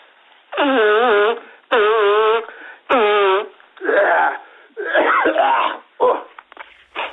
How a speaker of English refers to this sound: I've got like a little cold business, right? Yeah, you know? I've got, it's going around at the moment. It's always going around. All right, around, hold on a minute, man. Just let me blow my nose, eh?